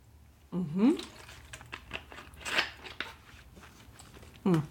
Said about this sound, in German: Sorry, ich trinke gerade Wasser.